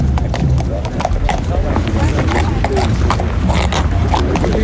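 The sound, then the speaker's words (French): Horse hooves clip-clop in a steady, repeated rhythm outdoors in fine weather, from the horse ridden by Terre Blanche, leader of the AWB, at a rally, heard amid continuous crowd noise and wind, moderately loud. “Il est là en personne, sur son cheval.”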